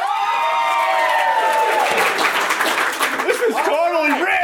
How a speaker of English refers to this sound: So, by applause.